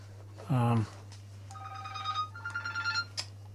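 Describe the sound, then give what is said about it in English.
A mobile phone ringtone plays a short electronic melody of bright, repeating beeping notes, at moderate volume over a steady low hum, just after a brief loud burst of sound. “wish you wouldn't bring your phone in here”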